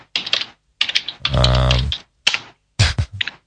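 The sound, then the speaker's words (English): Computer keyboard typing in quick irregular bursts, clusters of keystrokes separated by short pauses, fairly loud and with no one talking. “I love it when you're typing away there.”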